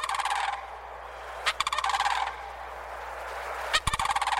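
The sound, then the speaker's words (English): Mississippi sandhill cranes give loud, rolling, rattling calls in three bursts across wet pine savannas near the Gulf Coast, each a throaty trill rich in overtones, with a steady low hum underneath and no voices. “On more than one morning, I've heard the arrival of these cranes, the slap of their substantial wings and the echo of their almost prehistoric calls across the wet pine savannas near the Gulf Coast.”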